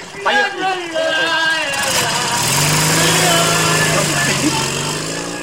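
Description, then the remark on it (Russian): After a couple of seconds of muffled voices and shuffling as a drunk man is loaded into its sidecar, a motorcycle with a sidecar starts and revs up, holding a loud, steady drone that climbs slightly in pitch to the end. “Загружает пьяного в мотоцикл с коляской.”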